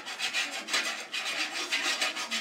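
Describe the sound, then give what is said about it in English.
A wolf's claws scrape across the roof of a brick house as it climbs up toward the chimney, in a run of rough, hissy rasping strokes, about six or seven in quick uneven rhythm, bright and fairly loud throughout, with no voices. “As soon as the third little pig heard the sound of claws on the roof”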